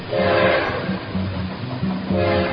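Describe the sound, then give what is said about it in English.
A train rumbles along steadily while its horn sounds loud, sustained blasts at the beginning and again near the end, with no voices. “Swap Shop trains are coming, rolling down that free market track.”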